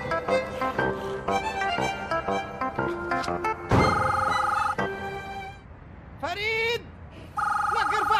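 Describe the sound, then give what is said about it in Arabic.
A telephone rings loudly in repeated electronic bursts with short gaps between them. Busy music plays before it, and a voice rises and wavers in between the rings. “التليفون لك راسي راح يطيح منك.”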